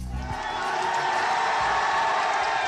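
A large crowd of thousands of supporters in Burma cheers continuously as Aung San Suu Kyi stands outside her home waving, a dense roar of many voices with shouts and whoops rising out of it, loud and sustained throughout.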